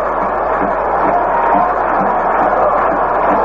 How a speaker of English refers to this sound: And this is the bottom half of the eighth inning. There's a swing and a foul ball back and out of play for strike one. The crowd has come alive here in the bottom half of the eighth inning.